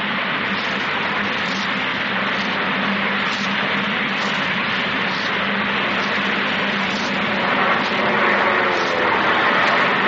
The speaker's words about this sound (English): We're all coming in and dropping bombs that are landing close to our target, but so far none have hit the target.